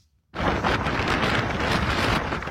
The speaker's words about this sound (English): The storm slammed the Northern Mariana Islands and Guam, forcing residents to seek shelter from flying debris and flash flooding. Sinlaku is the strongest tropical typhoon so far this year, with sustained winds above 150 miles an hour.